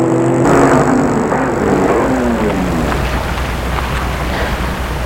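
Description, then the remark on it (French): A car engine, its tone sliding downward as the car drives up and stops in front of an apartment building on Île Saint-Louis in Paris, then settling into a steady, noisy idle rumble. No one speaks. “Il y va et arrête sa voiture devant l'immeuble.”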